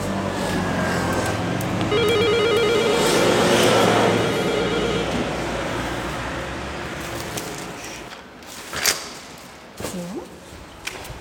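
A doorbell at the front door of a flat in the city centre, reached through a parking garage, rings with a rapid, trilling electronic tone lasting a couple of seconds over a steady background hum, followed by a few sharp clicks and knocks.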